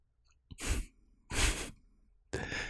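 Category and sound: human body sound, deep breathing exercise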